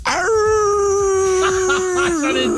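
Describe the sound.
A person gives one long, loud werewolf-style howl, holding a steady pitch for about two seconds before it wavers and trails off, with faint clatter underneath.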